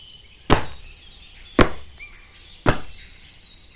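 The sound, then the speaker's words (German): Three hard, heavy foot stomps land on the floor at a steady, even pace, each a sharp thud, while birds chirp faintly in the background. “Na los, stampf mal kräftig mit deinen Füßen auf den Boden.”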